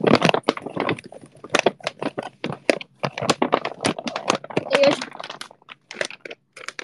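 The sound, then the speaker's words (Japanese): Crinkly rustling and crumpling of many paper bags being moved around, in irregular bursts of dry crackle, with a voice speaking over parts of it. “紙袋いっぱいある。どこに置こうかな。”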